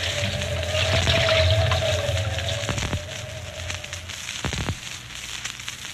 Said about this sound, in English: A western blue norther, known in other parts of the country as a blizzard, which strikes without warning and tumbles the mercury from boiling to below zero in a matter of hours.